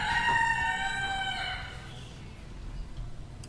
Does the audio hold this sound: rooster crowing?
yes